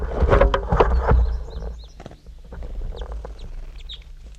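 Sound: bird calling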